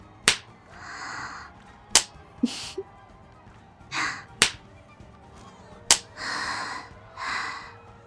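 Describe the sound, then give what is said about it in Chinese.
Four sharp, crisp smacks of a disciplinary ruler used for spanking, spaced a couple of seconds apart, with soft breathy gasps and exhales between them and no talking. “喜欢我直接用手吗？可是那样的话，周围的人都会听到了呀。我想还是用戒尺吧。”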